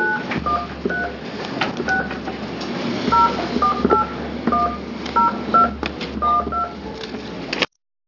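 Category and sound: signal or alarm, telephone dialing tones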